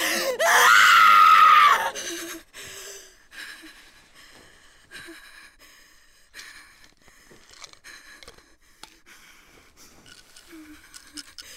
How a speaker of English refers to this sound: No screaming. No screaming. Why can't you scream?